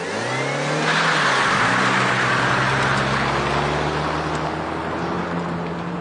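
car engine driving off

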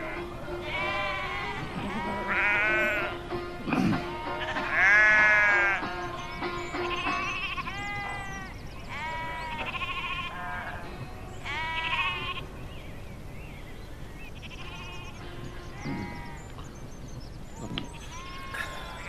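flock of sheep bleating

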